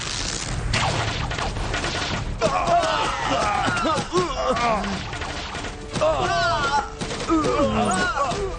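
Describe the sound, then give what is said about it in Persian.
A chaotic volley of gunfire, with sharp shots cracking out irregularly over several seconds, mixed with loud shouting and yelling voices. “فرمانده، این چوبا همشون سمی هم. تیراندازی کنیم.”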